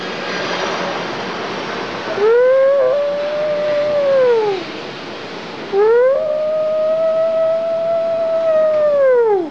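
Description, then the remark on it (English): Two long, drawn-out wolf howls, each rising, holding a steady high note, then sliding down, the second one longer, over a constant background hiss. No talking. “The wolves are screaming.”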